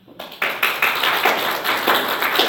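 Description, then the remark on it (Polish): A group of people applauding a woman for her flower arrangements, a dense patter of many hands clapping at once that starts abruptly and keeps up steadily, moderately loud, with no talking over it. “To wszystko robota Ady. Brawo dla niej.”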